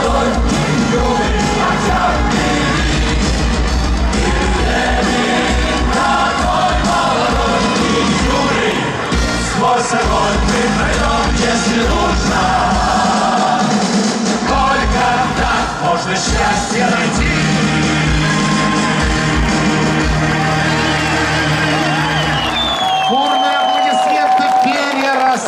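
A loud, sustained audience ovation after a performance of Soviet-era songs: a dense roar of applause mixed with cheering and yelling, holding steady for over twenty seconds before dropping away abruptly near the end.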